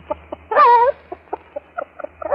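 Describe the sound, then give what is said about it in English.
A voice imitates a hen laying an egg: a drawn-out, wavering squawk followed by a string of short, evenly spaced clucks, fairly loud, with no talking. “Now, would you like to hear a little hen laying an egg?”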